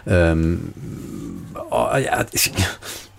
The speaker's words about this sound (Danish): Din hund gør.